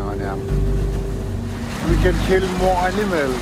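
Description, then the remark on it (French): A motorboat used for hunting drones steadily on a fjord over rushing water and wind noise, fairly loud throughout, while a voice speaks over the steady rumble. “Le bateau me permet de tuer davantage d'animaux parce qu'il agrandit mon terrain de chasse.”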